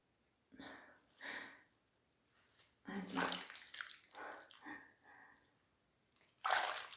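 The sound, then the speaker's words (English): Warm bath water sloshes and splashes in uneven bursts, with a louder rush of water near the middle and another at the end, plus softer lapping and faint breathy sounds in between. “This warm water is so good.”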